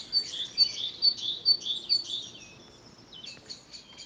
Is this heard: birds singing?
yes